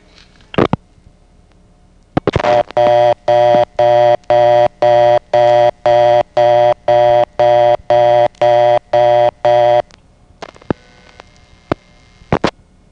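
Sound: telephone reorder tone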